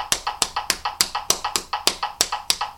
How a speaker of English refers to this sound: All right, now I changed to doing it on my lap, from clapping to do it on my lap, so it's a different technique. So I got to get used to that for a second. That one's harder.